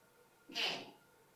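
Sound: sneeze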